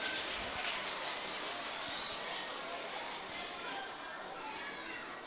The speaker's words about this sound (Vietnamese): Các con có thực hiện được không? Rồi cho một tràng vỗ tay thật lớn để cam kết nào.